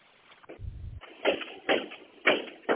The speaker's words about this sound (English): That's a rider pounding on my door. I'm here at Gresham Central eastbound.